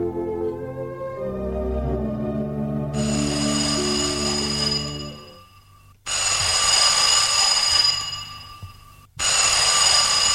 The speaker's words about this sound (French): Le téléphone sonne. Je décroche.